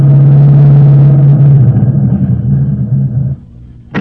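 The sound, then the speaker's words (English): A car engine rumbles loudly and steadily, wavers as the lead car slows and draws up a short distance from a hideout shortly after midnight, then cuts off after about three seconds, followed by a brief sharp sound near the end. “Let's imagine that shortly after midnight, the lead car drew up a short distance from the hideout.”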